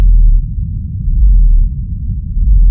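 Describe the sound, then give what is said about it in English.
A deep, rumbling boom from a cassowary, the lowest known bird call in the world and barely audible to the human ear, sustained and very low-pitched, pulsing slightly in loudness over a few seconds with no other sounds or voices. “It's the lowest known bird call in the world, and it's barely audible to the human ear.”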